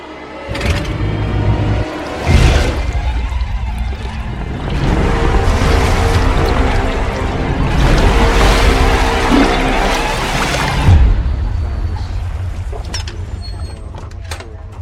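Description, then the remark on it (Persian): Water rushes and pours loudly into a boat that is being deliberately sunk, a steady churning with repeated heavier surges and a low rumbling, creaking undertone throughout. “من این قایقو غرق میکنم و میرم سراغ پلیسه.”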